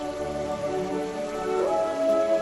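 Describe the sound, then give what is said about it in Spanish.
Heavy rain from a storm in Biescas, which dropped up to 170 litres per square metre in half an hour, pours down in a steady, continuous, deafening hiss, dense, with a faint sustained tonal drone running underneath it. “Una tormenta con una lluvia muy fuerte puede dejar entre 20 y 30 litros por metro cuadrado.”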